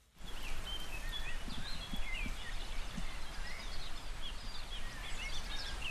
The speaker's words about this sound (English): That bird song is amazing. Yeah. Every morning I'm up with the bird song because I sleep just up there and I have my window wide open.